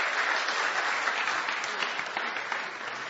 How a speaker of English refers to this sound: Thank you so much. Let's just give everyone just another clap for spending the testimony.